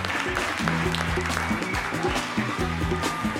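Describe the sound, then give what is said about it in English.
An audience, including performers' parents, applauding: a dense, steady wash of clapping that holds at an even level throughout, with some voices and tonal sounds mixed into the noise. “parents applauding in the audience.”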